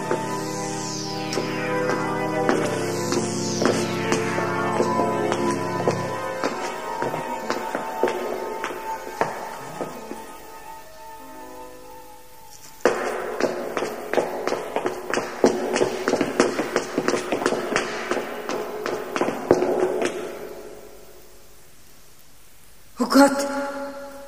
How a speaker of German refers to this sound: Sie begann schneller zu gehen. Und dann hörte sie Schritte, die ihr folgten.